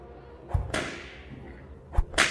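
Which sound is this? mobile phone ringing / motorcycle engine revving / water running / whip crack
whip crack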